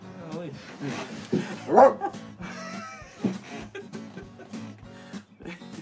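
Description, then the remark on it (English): A few short, sharp dog barks and yips pop up, mixed in with people talking over them throughout. “Bark, you gotta bark.”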